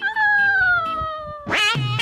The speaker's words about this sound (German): Boah, jetzt kommt hier eine Katze.